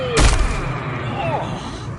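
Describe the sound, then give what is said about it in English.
A single heavy, booming thud lands early, loud, as bodies drop through a portal onto a hard floor inside a tower, then fades into a low murmur of voices. “The old man, the Shadow Elemental, pour through a portal inside the tower of torturous pain and stuff, hitting the floor with a thud.”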